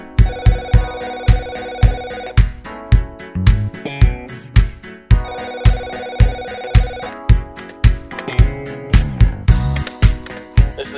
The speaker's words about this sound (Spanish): No es que no suene el teléfono, es que es del disco.